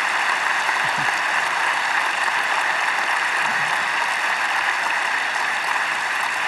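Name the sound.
audience applause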